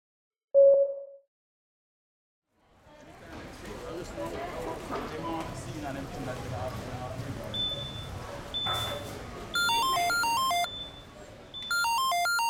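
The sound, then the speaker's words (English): A phone's electronic ringtone plays a rapid warbling melody in two bursts over steady background bustle, after a short single beep near the start, before a phone call between roommates. “Listen to the phone call between roommates.”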